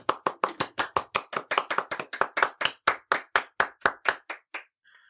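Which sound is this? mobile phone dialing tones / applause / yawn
applause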